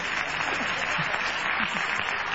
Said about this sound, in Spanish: A ver, saluden los niños. Saluden con las palmas, niños. Que esto es radio.